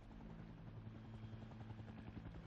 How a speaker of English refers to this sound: And this particular shot here was shot in Long Beach, the main action, and that is a live helicopter. With real water.